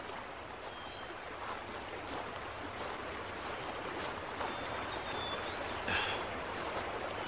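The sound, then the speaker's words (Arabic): A steady, continuous rush of babbling water from the White River fills the scene, a constant wash with no talking, plus a faint high chirp or two drifting above it. “أتسمع صوت خرير المياه؟ نعم، صوت النهر الأبيض.”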